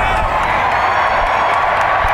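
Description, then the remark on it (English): A large crowd in Detroit cheers loudly and steadily at a rally as Amon-Ra St. Brown gets on stage with Jared Goff, a dense roar of many voices with scattered claps and shouts that stays constant throughout. “And he told the crowd to start that infamous Jared Goff chant.”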